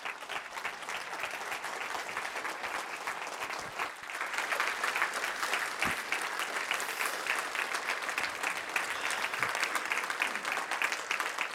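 A large audience claps steadily and continuously, a dense wash of hands that swells slightly louder partway through and keeps going without pause.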